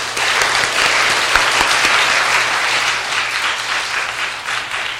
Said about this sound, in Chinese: 我想我不用多说，我把时间交给他，我们一起鼓掌欢迎他。